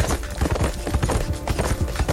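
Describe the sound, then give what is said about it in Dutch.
Horse hooves of two men on horseback charging in clip-clop in a quick, steady rhythm, the hard knocks fairly loud, repeating throughout with no voices. “En op 8 januari, 2 dagen na deze verwittigingsbrief, stormden plots 2 mannen te paard hier toe met elk een geweer en ze riepen ons toe: de generaal, die komt hier wonen.”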